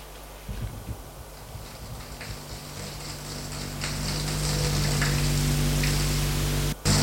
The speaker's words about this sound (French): Et va dans la salle de bain prendre sa douche.